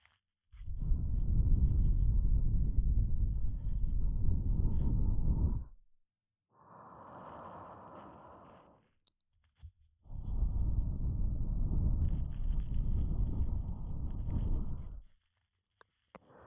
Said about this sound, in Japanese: 私の息、あったかいですか? もっと長い吐息にしてみましょうか。